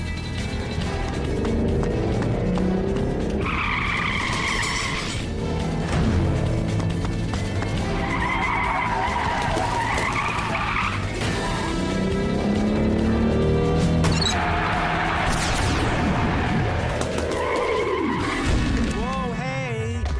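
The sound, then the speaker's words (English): A fake bread delivery truck on Main Street drives hard, its engine roaring and its tires squealing loudly several times in sharp, drawn-out screeches, ending with a falling whine as the vehicle swerves away. “Meanwhile, in the back of a bread truck...”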